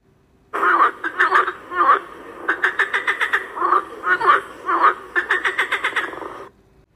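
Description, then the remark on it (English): A frog croaks repeatedly, mixing longer rasping calls with quick rattling bursts of clicks in an uneven rhythm, with no voices present. “It is a frog.”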